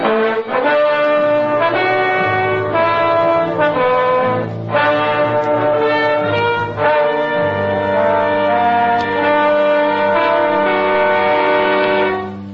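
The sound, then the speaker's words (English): Bagpipes played by a bagpiper in the house next door: a loud, continuous tune, the reedy melody shifting from note to note over a steady low drone that never stops. No voices are heard. “the devil's bagpiper. He's playing in the house next door.”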